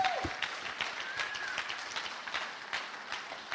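An audience bursts into sustained applause, many hands clapping in a dense, steady patter from start to finish, with a brief tone sliding in at the opening.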